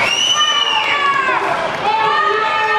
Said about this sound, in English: As they give their final bow, the crowd screams for an encore. Outstanding.